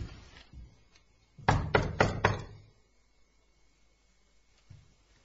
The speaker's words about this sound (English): Do you think we should knock? Yeah.